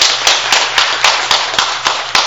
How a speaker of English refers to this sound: Yeah, let's clap for that. That's wonderful, wonderful, wonderful.